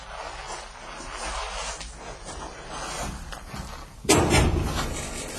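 A gate is opened: a few seconds of rough scraping and rattling, then a sudden loud clank as it swings or latches, followed by a brief rumbling settle.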